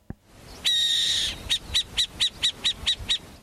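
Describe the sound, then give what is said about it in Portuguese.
A burrowing owl gives one drawn-out, raspy high screech, then a quick run of about eight sharp, evenly spaced chattering notes, loud and clear with no voices. “Coruja broqueira, eles amam.”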